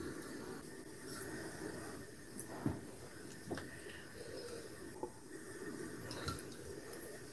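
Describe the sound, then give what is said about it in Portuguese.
Water pours steadily into a cup, a soft continuous trickle with a few brief splashes or clinks, fairly quiet, with no voices. “Vamos pegando nossa água.”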